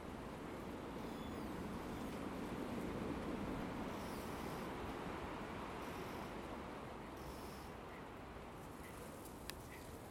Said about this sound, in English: Looking to the west, and the wind's coming from the west. Another windy day, another windy morning. Winds to gather speed through the day.